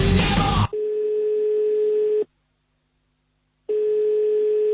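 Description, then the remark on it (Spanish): A steady telephone line tone, placing a call for the radio segment 'La llamada al líder', hums at a single pitch, breaks off into silence for over a second, then resumes, like a ringback cadence while a call connects. A brief burst of noise opens it. “hoy la llamada al líder.”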